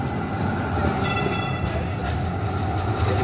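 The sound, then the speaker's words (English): An approaching light rail train rumbles loudly and steadily, its wheels and motor filling the air, with a brief high metallic whine rising partway through. No voices are heard. “No sooner had they completed that job than they noticed an approaching light rail train.”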